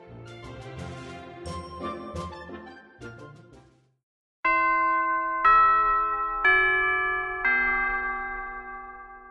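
A busy stretch of music gives way to a brief pause, then a chime rings four clear, evenly spaced notes, each struck loudly and left to ring out and fade.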